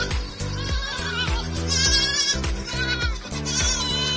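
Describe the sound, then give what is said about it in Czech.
Goats bleat loudly and almost continuously, several wavering, nasal cries overlapping one after another, with no pauses between them. “Kozy jsou neskutečně inteligentní a vtipná zvířata, která vám zcela jistě zpříjemní začátek i konec vašich home officeů.”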